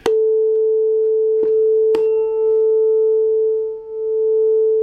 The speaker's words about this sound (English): That's a different beat frequency. So as I change the frequency of this tuning fork, I can change the overall beat frequency. And the higher that I make this one, the higher the beat frequency.